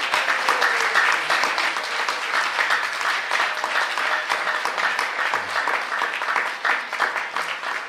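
A crowd bursts into sustained applause for a guide who helped the group deal with the local Brajbasis, dense overlapping claps at a steady loud level for several seconds without any speech.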